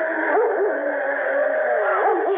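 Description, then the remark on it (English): A dog whimpers and yelps in a steady, wavering stream of high, whiny cries with no pause, sounding thin and band-limited like an old recording. “Now, where that dog is, there must be shelter.”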